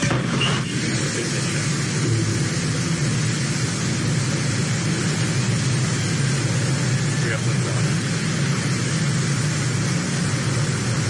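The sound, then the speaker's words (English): Rocket engines ignite at launch after a countdown, a loud, continuous roar with deep rumble and hissing, crackling noise that holds steady for the whole stretch without letting up. “T-minus 10, 9, 8, 7, 6, 5, 4, command engine start, 2, 1.”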